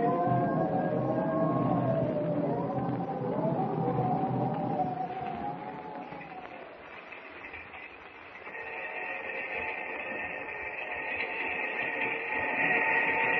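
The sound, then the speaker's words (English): A train rumbles steadily along the rails, with a low continuous roar and shifting metallic squeals and whines rising and falling over it, loud throughout with no voices. “I haven't been able to sleep a wink since we got on the train.”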